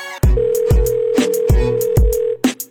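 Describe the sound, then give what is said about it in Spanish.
A telephone rings with a long, steady electronic tone, held for about two seconds over a thumping, evenly spaced drum beat with sharp hits. No one answers and no voices are heard. “Cuéntame esta tipa, no coge ese teléfono.”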